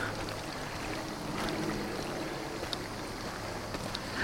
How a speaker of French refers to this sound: Je crois qu'il ne doit pas y avoir plus belle chose au monde que d'avoir un terrain et une rivière qui coule. Beau, hein?